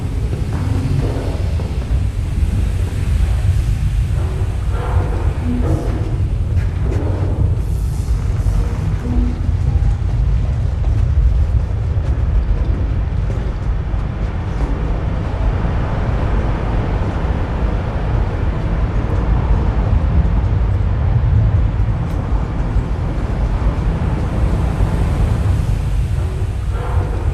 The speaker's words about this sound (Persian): اینجاست. صدا در اصل از اینجا میاد، یکی از لوله های آب شرب شهر لس آنجلسه. 30,000 گالون آب از توی این لوله عبور میکنه در هر ثانیه.